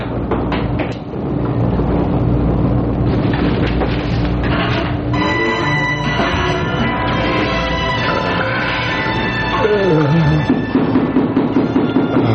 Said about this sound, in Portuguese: Ah, essa chuva danada.